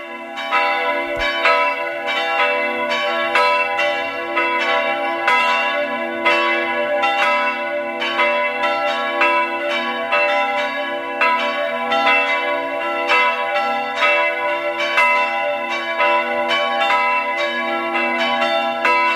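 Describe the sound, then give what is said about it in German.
Church bells of the Catholic parish church of Stadt Schleining in Burgenland peal at 12 noon, continuously with rich, overlapping metallic tones, struck in a steady, rapid rhythm that rings on loudly and evenly throughout, with no voices present. “Sie hören die Glocken der katholischen Pfarrkirche von Stadt Schleining im Burgenland.”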